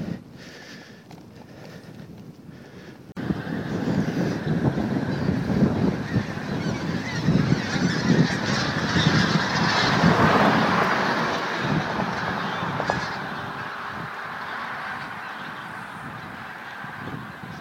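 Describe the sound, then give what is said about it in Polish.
A large flock of geese flies low overhead, honking continuously, a dense chorus of overlapping calls that swells loudly around the middle before easing, with a steady rumble of a car driving over bumpy ground underneath. “Ale nisko nade mną przyleciało duże stado gęsi.”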